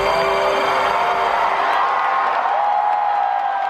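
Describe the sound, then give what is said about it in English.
A large crowd applauds and cheers steadily, a dense wash of clapping with whoops and shouts rising above it, loud and sustained throughout. “I had forgotten what applause sounded like, right?”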